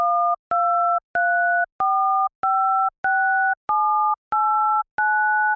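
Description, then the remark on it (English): Nine touch-tone telephone keypad beeps in an even, steady sequence, each a clean two-note chord. The lower row pitch steps up every third button while the upper column pitch cycles through three pitches. No talking. “If you listen closely, you can hear how the row pitch, which is lower, changes every third button, while the same pattern of three pitches for the columns repeats on top of it.”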